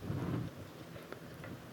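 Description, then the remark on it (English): A brief burst of stormy weather: a deep thunder rumble swells at the start, then fades into a steady hiss of heavy rain with a few sharp crackles. “A furious storm.”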